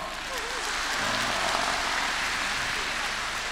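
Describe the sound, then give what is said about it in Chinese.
A steady, dense wash of crowd applause, many hands clapping at once in an even crackling roar that holds at the same loudness for a few seconds. “是的，谢谢，谢谢卢台长。 鼓掌。”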